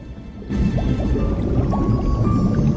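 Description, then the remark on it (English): Water in a well bubbles and churns steadily after a brief quieter start. It is a dense, low gurgling filled with small rising pops that continues evenly to the end, with no voices. “The dragon breathes out a plume of fire, and the water in a well begins to bubble and smoke.”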